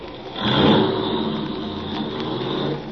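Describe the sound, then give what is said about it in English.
A car engine turns over and catches, then settles into a steady rumble as the vehicle pulls away, with no voices. “Start driving.”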